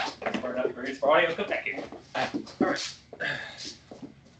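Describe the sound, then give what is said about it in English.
An Australian Shepherd puppy, about two months old, whimpers in short, high-pitched bursts, mixed with the repeated squeaks of his rubber squeak toy. The sounds are fairly loud, with voices mixed in. “I got an Australian Shepherd puppy, and he's just... He's awful right now. He's a little puppy.”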